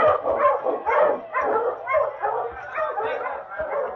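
A team of husky sled dogs, led by the dog King, barks and yips excitedly all at once at the start of a sled race, a dense, continuous chorus of overlapping barks, with no break over the whole stretch.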